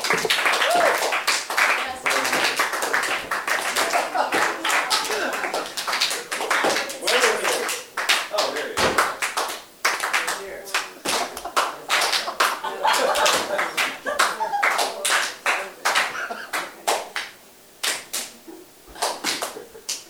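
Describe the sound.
An audience claps steadily for about twenty seconds, sharp overlapping hand claps in a loose, uneven rhythm, with faint crowd voices underneath.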